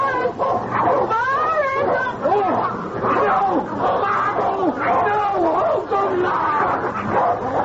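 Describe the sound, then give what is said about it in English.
A pack of dogs barks and yips continuously, with high whimpers and whines woven through a dense, agitated chorus that never lets up, alongside a murmur of voices. “Those dogs have tasted blood.”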